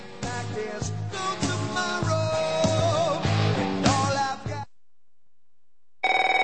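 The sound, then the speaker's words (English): A loud, musical phone ringtone plays a busy tune for several seconds, stops for a brief pause, then starts up again. No one speaks. “If fear strikes your heart when the phone rings, knowing it may be another bill collector,”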